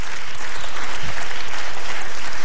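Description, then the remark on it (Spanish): An audience breaks into sustained applause for the God of glory, a dense, steady patter of many hands clapping at once with no pauses, loud and even throughout with no voices standing out. “Ah, aleluya, denle un aplauso al Dios de la gloria.”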